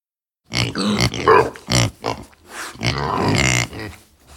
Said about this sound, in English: They approach and see 10 little piglets next to their pig.